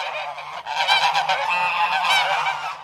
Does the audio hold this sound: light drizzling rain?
no